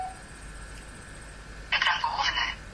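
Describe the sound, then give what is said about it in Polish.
The star key on a phone keypad is pressed to go to the home screen, giving a short bright electronic beep that cuts in sharply over a faint steady hum, then quickly fades. “Nacisnąłem gwiazdkę, by przejść do ekranu głównego.”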